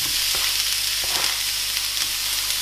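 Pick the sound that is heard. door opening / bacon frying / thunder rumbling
bacon frying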